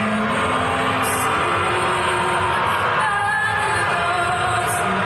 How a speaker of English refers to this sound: NBA fans today booed the U.S. national anthem.